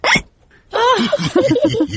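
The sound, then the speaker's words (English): A child hiccups sharply once, then after a short pause lets out a drawn-out voiced sound broken by several quick, rhythmic hiccuping catches, fairly loud. The child has hiccups from drinking juice too quickly. “George drank his juice too quickly, and now he has hiccups.”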